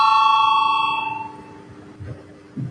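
signal or alarm, parliament voting bell

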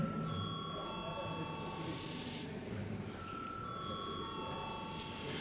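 signal or alarm, parliamentary bell ringing

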